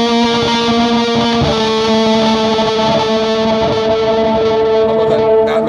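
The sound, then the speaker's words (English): Electric guitar played high up the neck through reverb and delay effects into an amp, the reverb set about halfway up, sustained notes ringing into long echoing tails that wash together, loud with no talking. “Yeah, that's the reverb plus the delay.”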